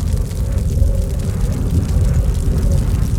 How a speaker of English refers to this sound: Yes, it's a plane. A rescue plane. A plane! Overhead!